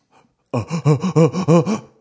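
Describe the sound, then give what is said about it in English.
Someone beatboxes with their voice: a quick, steady run of about seven voiced, pulsing bursts with a bouncing, rising-and-falling pitch, fairly loud and alone after a brief breath. “Does it sound like beatboxing? I know that sounds like beatboxing.”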